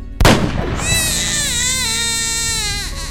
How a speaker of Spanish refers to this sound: Dejó que el bebé siguiera llorando en su cuna y una vez fuera del cuarto, cerró la puerta para no escucharlo.